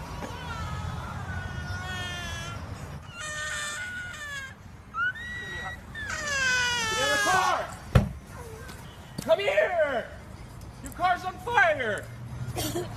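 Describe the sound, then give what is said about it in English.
Children crying and wailing in loud, high-pitched, wavering bursts over a steady low rumble, with a sharp thud partway through and more shrill cries afterward. The children are in the back seat of a smoking car that is on fire, at about 10 o'clock in the morning. “He can hear children crying.”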